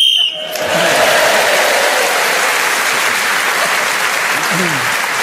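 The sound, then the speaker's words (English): A short, shrill whistle blast sounds at the very start, going off in a panel game as Tim Rice is speaking and gaining him an extra point, followed immediately by loud, sustained applause and crowd noise that carries on to the end. “So, Tim Rice was then speaking as the whistle went, gained that extra point, and he's moved forward.”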